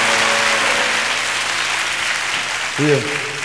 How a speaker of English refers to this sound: How's everybody doing? Let's give Jesus a round of applause. Come on, let's give him a praise.